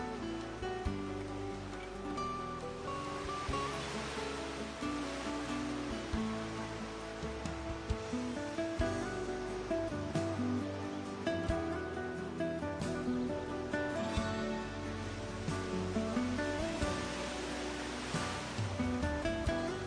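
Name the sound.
ocean waves washing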